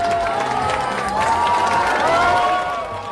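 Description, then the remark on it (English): A large crowd cheers and shouts excitedly at the opening of a new Apple store in Beijing, China, a dense, steady roar of many voices with rising whoops and calls, loud throughout before easing slightly at the end. “You can hear some of them cheering excitedly at the opening of a new Apple store in the Chinese capital of Beijing.”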